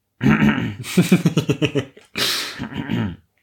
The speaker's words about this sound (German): Hust.